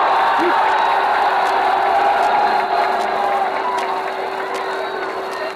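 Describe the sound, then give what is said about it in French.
A large outdoor crowd on the Champs-Élysées in Paris cheers and applauds continuously under bright sunshine, a dense roar of voices and clapping with occasional sharper claps standing out, steady and loud throughout. “Je crois que mieux des paroles, l'enthousiasme de la foule vous donnera une idée exacte de ce que toujours dit l'enthousiasme du peuple de Paris.”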